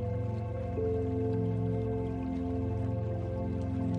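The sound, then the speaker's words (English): Water flows and trickles steadily in a mountain stream, with small drips and bubbling layered over a constant low, resonant hum. The sound is continuous and even throughout, with no voices. “Listen to the sound of the water, letting it soothe your mind and body.”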